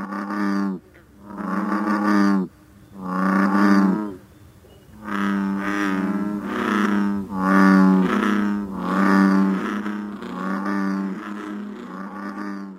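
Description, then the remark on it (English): Bullfrogs calling: a string of about eight deep, droning, resonant croaks, each lasting roughly a second, loud and coming in quick succession with short pauses, no talking. “Some frogs, you may go to a large body of water and hear one or two bullfrogs.”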